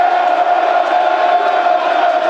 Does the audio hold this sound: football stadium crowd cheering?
yes